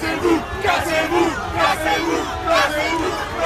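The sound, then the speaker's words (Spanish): A large protest crowd in Paris, at the Monument to the Republic, shouts and chants at police officers who have grabbed two people. Loud, overlapping bursts of 'get out' and the ACAB chant rise and fall in a roughly repeating rhythm, with no pause for the whole stretch. “Han salido algunos agentes a agarrar a dos personas y se les ha echado encima a la gente con gritos, como escucháis, de largaos y el famoso ACAP, todos los policías son bastardos, que siempre sale a relucir en todas las manifestaciones.”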